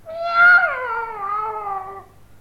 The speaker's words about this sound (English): People in towns can only keep small animals. Dogs. Cats.